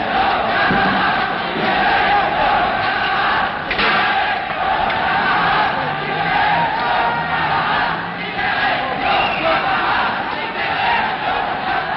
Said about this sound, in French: Et ceux qui n'avaient pas été embarqués ont commencé à s'énerver dans le quartier, à crier « Libérez nos camarades !»